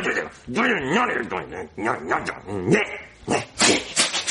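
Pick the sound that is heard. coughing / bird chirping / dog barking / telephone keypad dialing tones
dog barking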